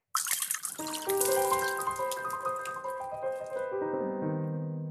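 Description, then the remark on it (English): Martinis are poured out onto the floor in a steady, splashing stream for several seconds, fairly loud, with a gurgling tone that shifts as it flows, and no voices over it. “We're pouring out martinis in front of the bartender who made them.”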